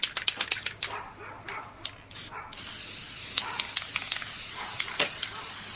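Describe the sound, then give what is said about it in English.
Gold 18-karat aerosol spray paint hisses in short bursts onto a picture frame and a little onto the artwork, then settles into a longer steady spray punctuated by quick puffs, with faint clicks and no talking. “I'm spraying gold 18 karat spray paint on my frame right now, and a little bit on the actual work.”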